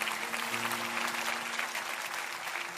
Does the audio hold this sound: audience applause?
yes